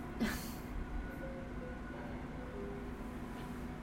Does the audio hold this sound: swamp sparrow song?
no